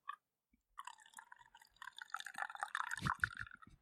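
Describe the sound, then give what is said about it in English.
Coffee pours into a cup, a quiet steady trickling stream that builds and gurgles near the end, with no one speaking over it. “Let me pour some more coffee.”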